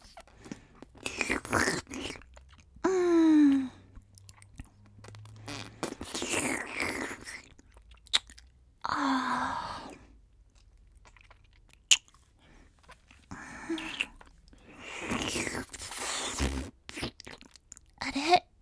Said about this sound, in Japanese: 吐息が聞こえちゃったね。舐められてるみたい？舐めてるの。